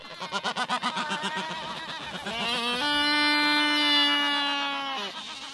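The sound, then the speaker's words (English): Black-browed albatross breeding colony calls, recorded during a bird survey on Steeple Jason, a remote island in the Falkland Islands in the South Atlantic: a quick run of throaty, pulsing cackles gives way to a loud, drawn-out braying wail held at a steady pitch for a few seconds before breaking off. “Steeple Jason's two peaks rise out of the South Atlantic and are home to the largest breeding colony of black-browed albatrosses in the world.”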